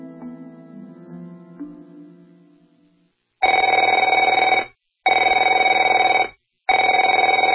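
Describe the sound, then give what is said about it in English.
A telephone rings three times in loud, even bursts with short pauses between, a bright, buzzy electronic trill, following a few seconds of softer, fading tonal sound. “Afraid to answer it?”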